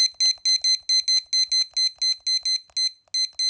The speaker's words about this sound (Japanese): あと、キッチンタイマーも持ってきてるので、ちょっとこれも先に合わしときます。20分だから。